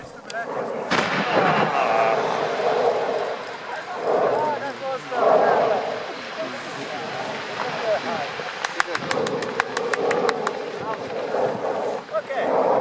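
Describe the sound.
An eruption of Mount Etna, Europe's largest active volcano, in May, roars with a steady low rumble and repeated booming blasts, while people talk and exclaim throughout, followed by a short burst of sharp, rapid clapping as onlookers applaud the eruption.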